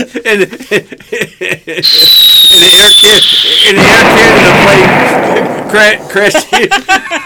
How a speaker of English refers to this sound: Or between two Esso commercials and a Canadian Tire commercial and a Air Canadian Tire with a plane going down. We need a sound effect.